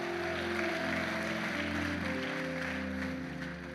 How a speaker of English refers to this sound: While you take your seat, why don't you turn that applause up and just thank our worship team. Like, how good are they?